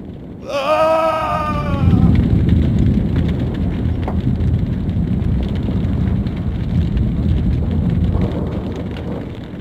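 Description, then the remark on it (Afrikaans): A brief descending wail gives way to a loud, sustained roaring rumble with crackling hiss, like the ground bursting open in a fiery eruption, continuing steadily to the end. “Die toorn van die hemel het hom getref en die aarde het om in sy vurige keel ingesluk.”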